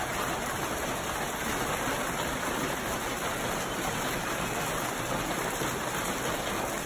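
A dense, steady roar of intense hail pounding down, a constant hiss and patter filling the whole stretch with no pauses and no voices.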